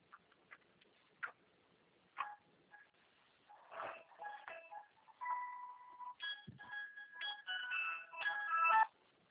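A second telephone rings while a call is in progress, with a warbling electronic tone in quick bursts, getting louder toward the end, after a few soft clicks and taps at the start. The sound is thin and muffled.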